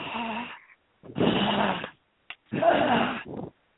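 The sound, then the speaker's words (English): A voice imitates a whirring blender making a smoothie in three bursts, the middle one longest and strongest, with a brief click between the last two; raspy, buzzing, fairly loud, no actual words. “Well, actually, I'm making a smoothie. And this is what it sounds like.”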